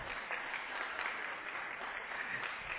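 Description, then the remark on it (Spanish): An audience applauds steadily for about three seconds, a dense crackle of many hands clapping at an even, sustained loudness with no one speaking over it, welcoming a feminist activist and communicator introduced as a guest expert. “¡Fuertes los aplausos!”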